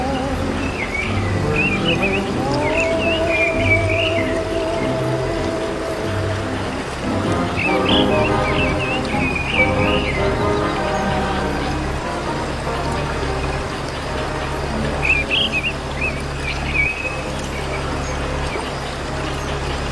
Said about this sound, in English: Pretty bird.